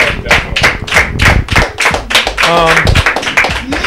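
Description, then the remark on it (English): Steady rhythmic clapping fills a round of applause from an audience of fans applauding themselves, crisp sharp claps repeating quickly and loudly throughout, with a brief voiced cheer rising over the clapping midway. “So give yourselves a round of applause too.”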